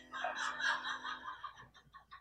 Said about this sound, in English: Bald eagle.